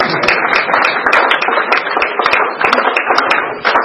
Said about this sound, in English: All right. The clapping woke you up, and you might reconsider on a white chip.